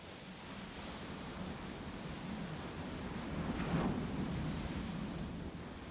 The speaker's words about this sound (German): Du lauschst dem monotonen Rauschen der Wellen.